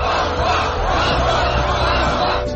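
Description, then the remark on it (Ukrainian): A crowd of several thousand chants and shouts together in a loud, continuous roar of many voices, sustained throughout with a steady rhythmic swell, at a protest on Wenceslas Square in central Prague, Czech Republic, demanding the resignation of Prime Minister Babiš. “Ось кількатисячний натовп на Вацлавській площі в самому центрі Праги вимагає відставки прем'єра.”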